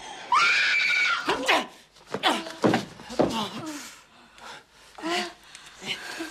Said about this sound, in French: Je t'ai dit de pas crier! J'avais dit.